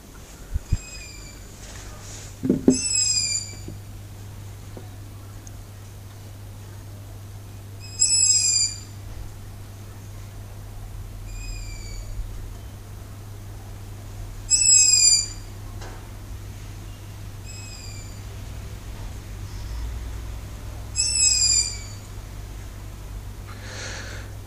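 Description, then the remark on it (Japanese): An owl calls out in short, high, raspy bursts roughly every six seconds, with fainter answering calls in between, all over a steady low background hum; about three owls are around, one perched on a TV antenna on a house roof. “これはですね、フクロウの声なんですよ。”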